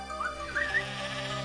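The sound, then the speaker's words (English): A sheep bleats in one drawn-out, quavering cry, its pitch wavering and rising briefly partway through. The call is moderately quiet, with no talking. “Here, sheep, sheep. Over here, sheep.”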